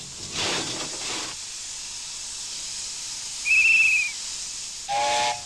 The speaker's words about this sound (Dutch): Zo rijdt er nu weer een stoomtram van Horen naar Medemblik.